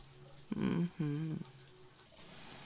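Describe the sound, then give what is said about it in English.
Shower water pours in a steady, even hiss throughout. Two brief, low vocal murmurs rise over the spray early on, then fade back into the running water. “Just let that water wash over us.”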